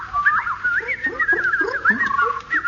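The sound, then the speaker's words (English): A voice mimics a warbling alarm to scare off birds and stop them digging up seeds, its pitch wavering up and down in a steady, continuous siren-like trill for a few seconds, fairly loud with no other sounds. “The simplest method is the basic oral alarm like this.”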